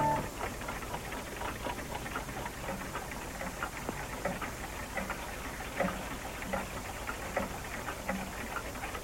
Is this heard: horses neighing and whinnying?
no